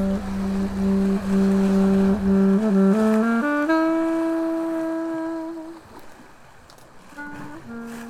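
A Perkins engine on a cargo boat in the evening drones loudly, its humming tone stepping up in pitch as it revs, then easing off and quieting before a shorter tone returns near the end.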